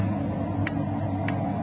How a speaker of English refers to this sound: Loud clock, ain't it? Windy. Getting cold in here. Sure a loud clock.